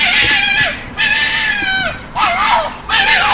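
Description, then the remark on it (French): A fox calls four times in a row, each cry a loud, drawn-out, wavering wail with a harsh, bleat-like quality, separated by short pauses. No one speaks. “Et là, on va mettre le cri de le renard.”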